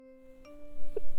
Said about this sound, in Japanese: いけない。下校時間のチャイムですね。校舎の鍵を閉められたら困っちゃいますし、そろそろ帰る準備をしちゃいましょう。